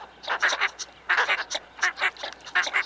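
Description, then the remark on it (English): Northern shoveler ducks calling: a run of short, nasal, clipped notes in bursts of three or four, fairly loud and overlapping, like a small group chattering together with no voices. “Northern shovelers are social birds that often forage together in large flocks.”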